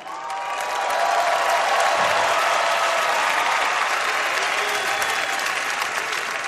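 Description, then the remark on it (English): A large arena crowd applauds and cheers steadily before a basketball game as Magic Johnson stands at center court paying tribute to David Stern and Kobe Bryant. It is a dense wash of clapping and voices that swells early and holds at full volume throughout. “I'm going to say that one more time because that cheer should be a little bit louder.”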